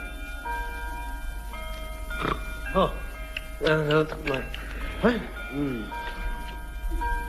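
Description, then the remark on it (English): A clock strikes twelve with steady, ringing bell tones that overlap and linger, while voice-like murmurs and vocal sounds rise briefly over the chiming. “Oh, 12 o'clock. It's Monday at last.”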